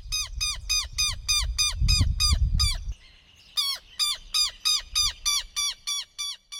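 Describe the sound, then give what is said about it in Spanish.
Loud, strident southern lapwing (tero) calls repeat in a fast, steady series, pause briefly, then resume in a second burst; a low rumble, like wind, sits under the first stretch. “El tero es de tamaño mediano, con patas delgadas y largas.”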